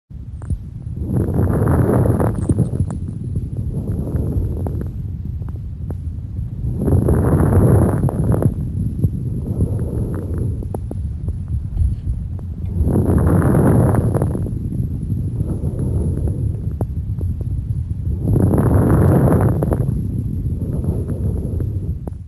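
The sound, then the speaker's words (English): Coarse, low-pitched lung crackles typical of chronic bronchitis ride on slow, repeated breaths, four louder inhalations about every five to six seconds with softer exhalations between, with no talking. “Now listen to this recording of low-pitched or coarse crackles, typical of chronic bronchitis.”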